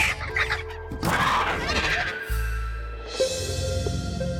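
Chickens cluck and squawk in a busy, overlapping jumble of short calls, with a low rumbling bed of other noise running underneath throughout.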